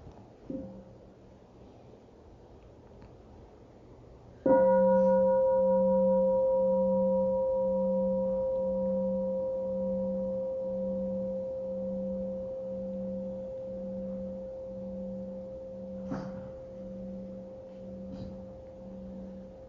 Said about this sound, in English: And let us listen to the sound of a bell.